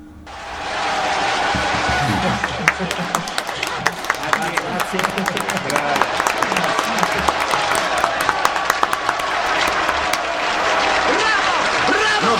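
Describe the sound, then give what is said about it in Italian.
A crowd applauds a band after it plays its first single live, steady, dense overlapping handclaps with occasional sharper claps standing out, sustained for the whole stretch with a murmur of voices underneath. “Due minuti di applausi.”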